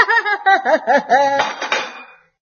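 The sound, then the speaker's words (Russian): A few seconds of rhythmic, pitched laughter give way to a sharp crash of a cup broken by a mother, with bright shattering clinks that trail off into silence. “Это ты зачем разбила чашку?”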